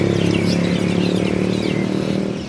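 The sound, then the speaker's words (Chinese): A motorcycle engine roars steadily outside a window at night, around 11 p.m., on the streets of Chiang Mai, Thailand. Its low droning rumble holds for a couple of seconds before easing off slightly at the end. No one speaks. “另一方面，清迈的街头实在有太多人骑着摩托车在飞驰了，即使到了我要睡觉的晚上11点，还是能清晰地听到窗外的摩托车轰鸣的声音。”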